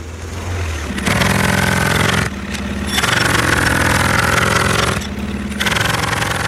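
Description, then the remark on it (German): A pneumatic jackhammer drills in three loud, sustained bursts with short pauses between, its rapid pounding harsh over a low engine-like drone. No one speaks. “Pressluft haben wir, gleich Löcher, gleich Strassensperrung, gleich Umleitungen und Stau.”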